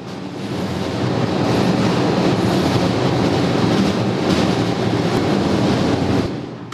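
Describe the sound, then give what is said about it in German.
Industrial document shredding machinery in the document destruction area of the Wendelsteinwerkstätten am Oberfeld roars loudly and steadily for several seconds, a dense, churning rumble with grinding hiss on top, before the noise drops away at the end. No one speaks. “So, das war jetzt ein kleiner Vorgeschmack, was es hier an Lautstärke gibt. Jetzt sind wir nämlich inzwischen gelandet in der Aktenvernichtung, einem relativ großen Bereich hier in den Wendelsteinwerkstätten am Oberfeld”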